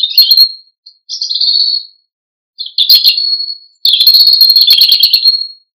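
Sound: european robin song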